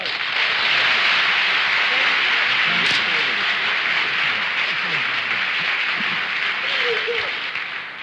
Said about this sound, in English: much has been revealed by the applause of the audience, and it would be very unfair to all of you to keep you in doubt any longer. Our guest is indeed Frank Lloyd Wright.